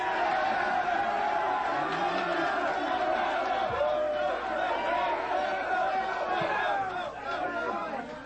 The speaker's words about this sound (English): Hey, punk. What are you applauding?